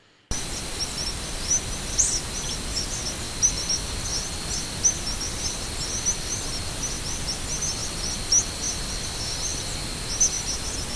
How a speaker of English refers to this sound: Andrew, we actually have a recording you made of some of the birds migrating at night. Let's see if we can listen to that now.